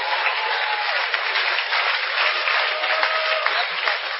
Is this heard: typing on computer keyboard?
no